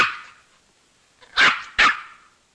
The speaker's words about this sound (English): Now at Rita's apartment, a toy poodle barks at Tom, who sits beside it.